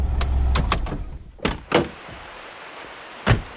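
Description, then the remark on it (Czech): A car's engine rumbles and then cuts off as it pulls up at the water's edge, followed by several sharp clunks and clicks of car doors opening and shutting, with quiet outdoor ambience between them. “Jediné místo, kde se dá autákem zajet až k vodě.”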